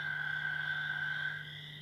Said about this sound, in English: There's also some southeastern chorus frogs. There may have been a southern leopard, I didn't hear that one.